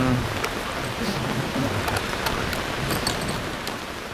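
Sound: heavy rain pelting down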